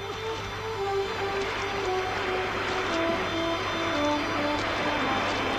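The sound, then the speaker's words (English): Two men row a boat with its sail furled at sea: oars creak and dip in a slow, steady rhythm over a constant wash of open water, with faint splashes at each stroke and a low background hum. “Their sail furled, Johnson and Lewis row on.”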